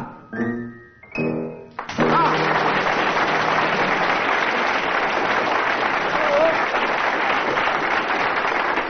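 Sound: burst of audience applause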